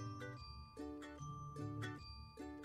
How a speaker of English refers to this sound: I don't know. More the merrier, I guess. I don't know. Five ding-a-lings. Yeah, five ding-a-lings. Yeah, five bells.